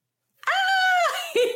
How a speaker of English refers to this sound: Ah! Say hi, Nessa. Hi, puppy. Nessa Rose. We can hear you. Want to say hi? She is 13, going to be 14 this year.